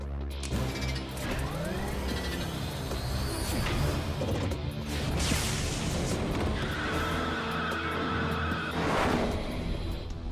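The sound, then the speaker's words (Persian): A car careens out of control, tires squealing in rising and falling whines over a loud, roaring engine and clattering, crashing noise that fills the whole stretch. “سب کن ماشین لعنتی.”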